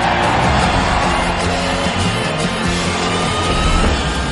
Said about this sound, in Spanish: ¡Un gran aplauso para el mismísimo Jack Mali!